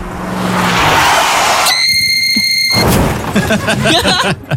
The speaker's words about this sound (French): Eh ben on a remixé ce cri, parce que bah voilà, ça ressemblait à tout sauf un cri de ninja. Par exemple, ça pourrait être un crissement de pneus dans un accident de voiture.